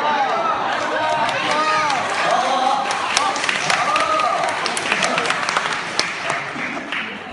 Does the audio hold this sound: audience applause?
yes